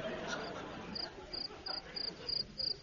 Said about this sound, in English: Listen, what's making that noise? The cricket.